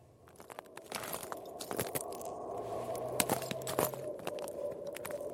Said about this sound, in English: I'm treading, gingerly, across the frozen ice on the middle of Lake Inari. We've travelled about 300 kilometres into the Arctic Circle, to the wild, empty landscape in the far north of Finland.